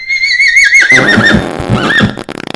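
animal, horse neighing sound effect

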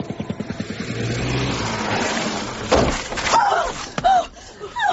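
vehicle, car braking suddenly

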